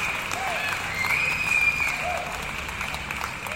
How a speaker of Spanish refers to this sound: Nuestro saludo y respeto, es más, un aplauso para todos ellos.